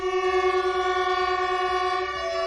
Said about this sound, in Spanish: Con todos los maquinistas tocando la bocina a la vez.